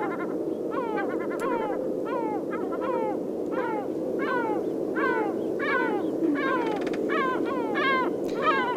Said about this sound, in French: Le ricanement de la mouette se distingue donc du cri plus classique du goéland.